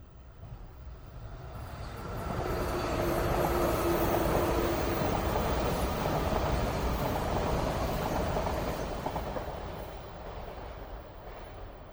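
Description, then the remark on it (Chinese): A passenger train bound for Kunming rumbles along the rails with a steady, broad roar that swells louder for several seconds, then eases back down, with no voices. “这天，王忠与杨雪上了开往培训地昆明的火车。”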